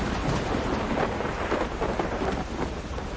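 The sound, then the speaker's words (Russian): Steady, heavy rain pours down in a dense, continuous hiss, with a low rumble underneath and no one speaking. “Между тем дождик перестал.”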